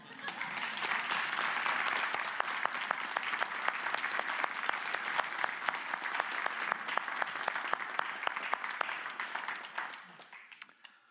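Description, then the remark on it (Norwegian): Sustained applause from an audience, a dense wash of many hands clapping at steady loudness for about ten seconds before thinning out and fading near the end. “Jeg vet ikke hva tid til å holde, men nå holder jeg vi skulle klappe.”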